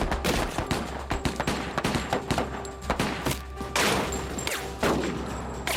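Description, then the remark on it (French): A rapid, irregular barrage of loud gunshots as suspects fire while coming out of the back of a truck and police fire revolvers, sharp cracks overlapping in a continuous fusillade with heavier booming blasts near the end, over a low steady rumble. “Je me suis retourné et j'ai vu les suspects sortir de l'arrière du camion en tirant des coups de feu.”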